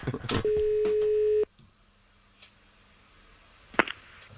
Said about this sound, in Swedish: Ja, och i med när folk är oroliga, det är ju då luringen ringer.